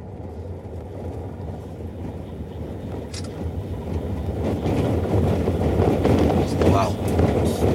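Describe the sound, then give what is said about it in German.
A large jeep drives along, heard from its back seat, with a steady, deep engine and road rumble that swells slightly louder over time, with faint rattles and bumps mixed into the continuous drone. “Ich hocke auf der Rückbank von einem riesigen Jeep”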